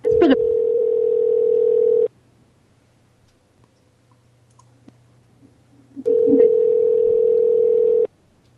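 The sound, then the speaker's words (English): A telephone ringback tone on an outgoing call to a Walmart store in Portland, Oregon: two long, steady, loud rings about two seconds each, separated by roughly four seconds of near silence, with a faint click at the start. “This is going to be like the most rings that's ever been on the phone show before.”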